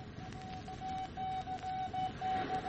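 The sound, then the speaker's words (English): A single steady tone keys on and off in short and long pulses, Morse code sent by radio across the Atlantic carrying an urgent warning to a ship, moderately loud against a constant hiss of static. “Across the wide wastes of the dark Atlantic, the Morse signal travels.”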